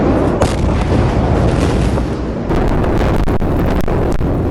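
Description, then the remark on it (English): A huge, sustained explosive roar from about 2,750 tons of improperly stored ammonium nitrate exploding in the port of Beirut, Lebanon, on 4 August, loud, with rumbling low-end blast energy and crackling bursts, shifting midway as the blast wave rolls through the city; no voices are heard. “On the 4th of August last year, Lebanon's capital, Beirut, was devastated by one of the largest non-nuclear explosions in history.”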